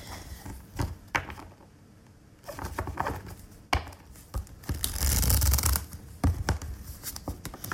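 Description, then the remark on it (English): A brand-new, never-shuffled deck of large cards being shuffled: crisp snaps and taps, then a dense riffling flutter midway, with uneven pauses between attempts as the new cards are hard to shuffle; no talking. “They're so new, it's like difficult to shuffle these.”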